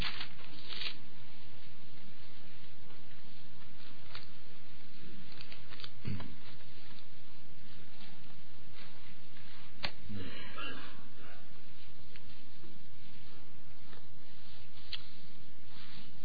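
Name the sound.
audience rustling Bible pages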